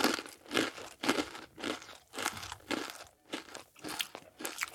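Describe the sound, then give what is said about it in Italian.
Crisp crunching of sweet corn-flake cereal being tasted with a bowl of milk, chewed in steady repeated bursts about every half second, with no talking. “estrae dal forno la sua creazione, prende una scodella di latte e assaggia il risultato”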